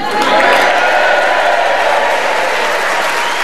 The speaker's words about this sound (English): And we have a warm, passionate Yorkshire audience in front of us, ready to cheer us on our way as we start the show this week with Tony Hawks.